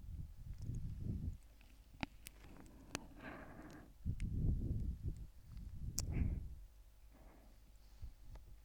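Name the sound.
heartbeat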